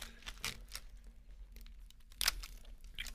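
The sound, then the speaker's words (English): A package seal cracks and tears open in a series of short crinkly bursts, the loudest one near the end, over a faint steady hum with no talking. “Yeah, I hear that seal cracking.”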